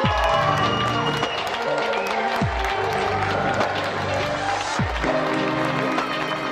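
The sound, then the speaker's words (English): A dense wash of applause and cheering holds steady for several seconds, with a crowd's roar layered over a rhythmic low musical pulse that swells and drops roughly every two and a half seconds. “These are those we applaud.”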